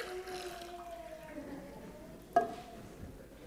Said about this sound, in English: Watch, I'm going to pour some more water out of my pot.